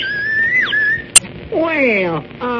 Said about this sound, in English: Well, a whistle. Yes, but it's a special kind of whistle. Imitates birds. It does. Yes, see, you blow on this end, and it's a meadowlark. Well, I do know. And then you blow on the other end, and you get the whippoorwill.